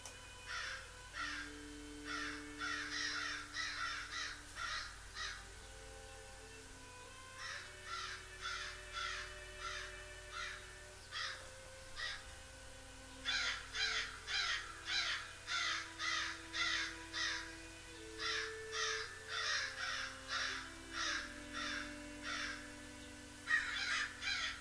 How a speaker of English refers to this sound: Parky turned his head as he heard Otty the black crow loudly caw-cawed.